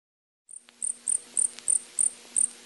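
A cricket chirps inside a ranch house in a steady, repeating rhythm, about seven high-pitched bursts evenly spaced, with no voices around it.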